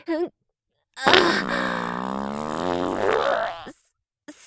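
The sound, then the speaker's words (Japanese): A long, loud fart from built-up gas that could not be held in stretches out for nearly three seconds, a buzzy rasp that wavers in pitch, with short bits of voice just before and after. “おなら、漏れてしまいました。”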